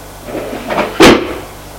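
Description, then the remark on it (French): The last drawer of a desk slides open with a soft scraping rub, then a single sharper wooden knock as it stops, followed by quiet room tone. “Elle ouvre le tiroir.”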